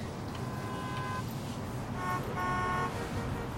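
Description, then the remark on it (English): Steady road traffic rumbles in the background while car horns blare twice, one long honk followed by another after a short pause, loud, heard while driving home in traffic. “I'm in traffic on my way home”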